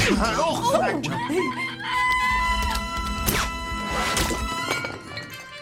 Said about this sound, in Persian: این مرغه چرا اینطوریه؟